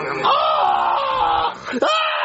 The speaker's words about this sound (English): why are you screaming like that?